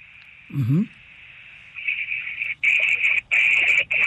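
A steady high electronic tone from a satellite's telemetry radio signal, received during a pass, hums throughout, swelling louder and breaking into choppy bursts toward the end, with a brief low warbling chirp near the start.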